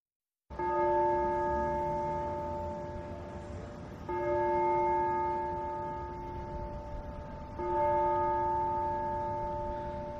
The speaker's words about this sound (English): The bell tolls for thee, Yankee Stadium, Shea Stadium, Astroland in Coney Island, even the 158-year-old Lehman Brothers.